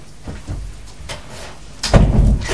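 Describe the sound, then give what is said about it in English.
A door is pushed shut, with a light knock and rattle first and then a heavier thud closing it, the bump and rumble lingering briefly afterward. No one speaks. “Shut the door, please.”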